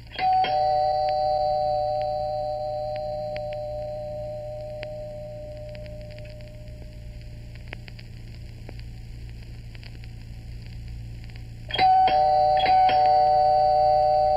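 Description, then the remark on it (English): A doorbell rings loudly at the start with bright sustained tones that slowly fade over a steady hum, then rings again near the end, clear, with no one talking; the bell has been ringing all evening. “That bell's been ringing all evening.”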